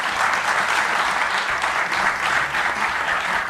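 A crowd at a rabbi's Torah lecture applauds steadily for the gabbai for several seconds, a dense, even wash of many hands clapping with no pauses and no voices on top.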